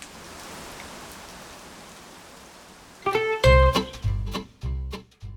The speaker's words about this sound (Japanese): やっぱタイマグラといえば僕の中ではあの時の雨ですね。雨。